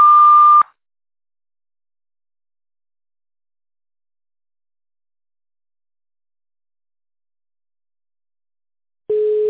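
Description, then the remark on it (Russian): A steady, fairly loud telephone beep, the long signal of a sanatorium's automated phone line, sounds briefly at the start, followed by a long stretch of silence, then a lower-pitched tone begins right at the end. “После длинного сигнала переведите ваш аппарат в режим тонального набора и наберите внутренний пятизначный номер.”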